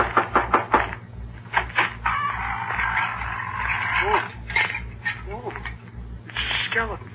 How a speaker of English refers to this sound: Well, we're going in to get the Wicked Witch. I better knock on the door.